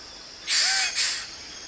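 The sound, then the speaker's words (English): A male Wilson's bird of paradise, brightly coloured and about the size of a sparrow, gives two harsh, raspy call notes in quick succession, fairly loud, on the forest floor over a faint steady forest hum. “This is a Wilson's bird of paradise.”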